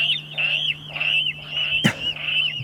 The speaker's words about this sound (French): Un petit côté cochon presque, chez celui-là, ouais. Alors c'est... Il pousse des cris de cochon, c'est le râle d'eau. Il râle, quoi, c'est ça. C'est pour plaire aux filles, et apparemment ça marche. Son cri d'amour.